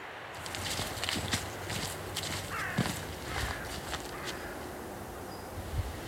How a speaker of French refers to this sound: Une corneille noire. Là, ce qu'on a entendu, c'était une corneille noire ? Oui. Vous avez deviné sa couleur juste à son, à son cri ? Il n'y a que celle-là ici. Il n'y a que la corneille noire.